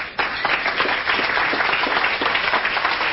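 An audience breaks into applause, a dense, steady wash of many hands clapping at once that stays loud and even for a few seconds with no voices standing out.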